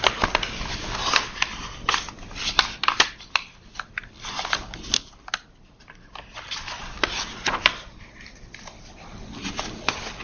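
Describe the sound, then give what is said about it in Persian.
Crisp rustling and flicking of paper sheets being shuffled and searched through for a sheet of notes about Popper, with repeated short crackles and soft thumps over about ten seconds, no voices. “ننوشتم پوپر دیگه دارم بگردم یه ورقه دیگه”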